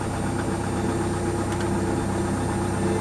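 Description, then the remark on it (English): A car engine idles steadily after its field coil was tightened, a low, even rumble with a faint rhythmic chug that holds constant throughout, with no voices. “Will you listen to that baby purr?”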